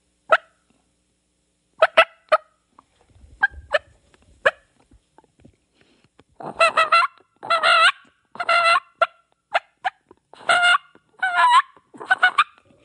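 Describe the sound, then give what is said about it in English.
A reed turkey call fitted with a yelper reed sounds a run of raspy, rolling purrs and short yelps, starting with a few sparse clucks and building into louder, closely spaced bursts. No one speaks. “it's purring. That read's not meant to purr. It's more of that yelper read.”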